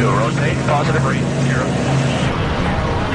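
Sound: aircraft engine running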